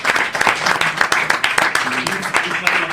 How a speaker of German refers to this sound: So Leute, und jetzt noch einmal Applaus für alle Scheichs. Und Scheichinnen.